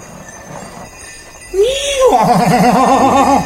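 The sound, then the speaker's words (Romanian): A horse lets out a loud whinny that starts with a rising squeal and breaks into a long, wavering neigh, following a quieter stretch of low background noise. “Îți mulțumim pentru bunăvoință, domnule cal.”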